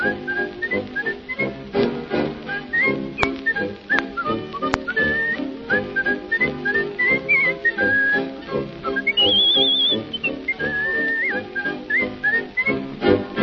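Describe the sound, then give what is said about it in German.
A person whistles a lively melody with clear, bright, sliding notes, fairly loud, over a steady instrumental accompaniment, continuing for the whole stretch without any talking. “Pfeife weiter, …, dein Pfeifen macht Spaß”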